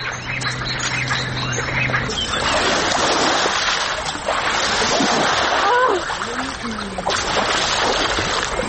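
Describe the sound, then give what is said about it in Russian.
Water splashes and churns in a steady, fairly loud wash that fills the whole clip, with brief voices surfacing faintly amid the sloshing. “Я брызгать!”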